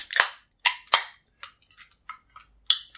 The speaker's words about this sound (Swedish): Då korkar vi upp. Och ser om någon julstämning infinner sig.